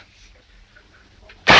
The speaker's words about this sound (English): Another jar blows, showering them in sliced peach.